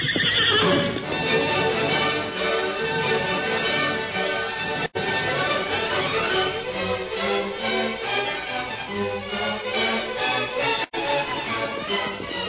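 The horses of the Lone Ranger, Tonto and Jeff whinny loudly and repeatedly while hooves clip-clop steadily as they are reined in on the bank of a stream, a busy stretch of neighing and trotting with a couple of brief dropouts and no talking.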